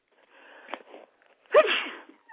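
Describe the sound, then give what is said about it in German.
A single sneeze from a woman: a quiet breathy intake building up, then a sudden loud explosive burst that trails off quickly. No talking. “Da muss sie niesen, da hat sie Druck drauf, merkt ihr das?”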